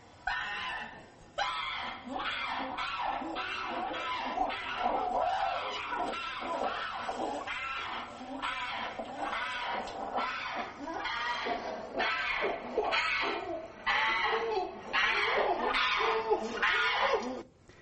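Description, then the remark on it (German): An animal in a prolonged state of agitation, tearing apart a cloth, screams in distress, loud shrill cries repeating in rapid, uneven bursts with brief breaks, continuing without pause for the whole stretch. “Also wenn ich das Gesamtvideo jetzt zeigen würde, das mache ich jetzt nicht aus Zeitgründen, dann würde ungefähr jetzt 6 Minuten dieses Geschrei zu hören sein.”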